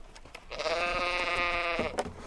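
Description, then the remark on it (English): A single long, wavering bleat from one of about 16 pregnant ewes under a lone tree in the snow on McFarland Creek Lamb Ranch in Washington's Methow Valley rings out clearly for over a second, a nasal, quavering cry with rich harmonics, followed by a brief softer bleat at the end. “About 16 pregnant ewes lounge beneath a lone tree on McFarland Creek Lamb Ranch in Washington's Methow Valley.”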